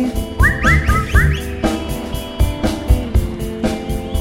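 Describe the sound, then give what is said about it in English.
A person whistles three times, a quick run of short, rising notes near the start, heard over a steady rhythmic musical backing that continues after the whistling stops. “Just whistle three times if you love me.”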